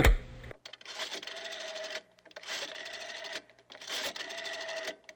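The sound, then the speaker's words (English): A telephone being dialed: three mechanical whirring bursts, each about a second long with short pauses between, fairly loud, with no voices. “hand me that phone.”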